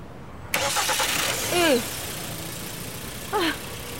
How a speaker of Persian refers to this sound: نمیدونم روشن نمیشه. برقشه اینا ایرادی نداره؟ من سر در نمیارم ولی تا امروز نه مشکلی نداشته. ببینم ماشین بنزین داره؟ بله تازه پرش کردم. یه استارت بزن.